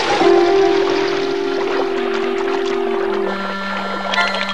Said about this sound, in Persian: آب از راه پله پایین میریزه و جری هم با آب از خونه بیرون میاد.